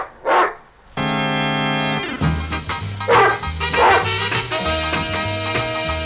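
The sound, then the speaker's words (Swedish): A dog gives one short bark, and then instrumental music starts and carries on steadily with no voices. “Till det säger jag bara hej hej och vår hund.”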